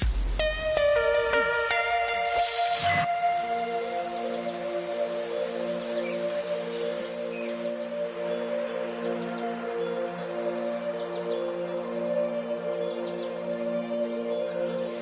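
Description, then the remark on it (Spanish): Light bird chirps and tweets flutter over a soft, sustained musical jingle of held tones introducing a radio weather forecast, the birdsong scattered and fairly faint behind the steady music. “Tenemos una sintonía para darte el tiempo que hasta suenan pajaritos, ¿eh?”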